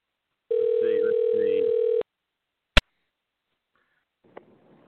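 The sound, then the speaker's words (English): A single ringback tone of an outgoing phone call to a fan that goes unanswered, a steady buzzing hum lasting about a second and a half, followed by a sharp click and later a faint tap. “Let me give him a ring.”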